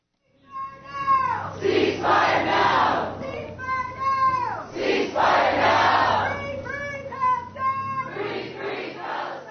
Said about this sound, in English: The gazebo at Marine Park was packed, as a crowd of about 150 people stood in the cold. They held signs, and many wore the colors of the flag of Palestine.